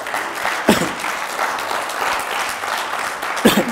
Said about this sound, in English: Why don't you just give the Lord a hand clap of praise?